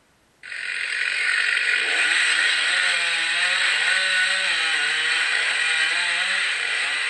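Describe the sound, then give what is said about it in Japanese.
A chainsaw starts abruptly and runs loud for several seconds, its high buzzing whine steady with slight wavering pitch as it cuts into and fells a cedar tree about 20 metres tall, in a forest managed by the Kitashinshu Forestry Cooperative in northern Nagano Prefecture, Japan. “チェーンソーで杉を伐採しています。”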